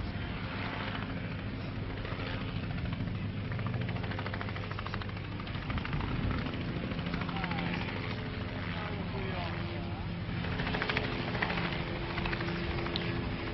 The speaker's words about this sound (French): Le silence de la place est seulement troublé par des hélicoptères qui tournent inlassablement au-dessus de Colombey.